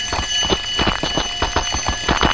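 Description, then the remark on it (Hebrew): An alarm bell rings continuously, a harsh metallic clangor of rapid repeated strikes that pulse steadily and loudly throughout, with no voices. “ואז אני מקבל, יש ביחידה נועל, זה די טראומטי, אתה שומע את הפעמון הזה, זה פעמון שאתה לא יכול להתחמק ממנו.”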